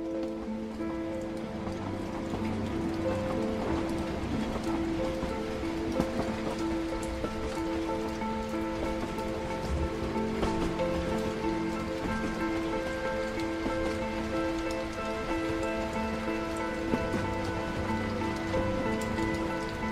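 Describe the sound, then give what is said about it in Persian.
Steady rain falls at the final stop of a tour heading north from Tehran, Iran, with a constant, dense patter at an even level, accompanied by sustained low tones running underneath the whole time. “بعد رفته رفته مه گرفته و خنک شد و ایستگاه آخر دیگه بارون گرفت.”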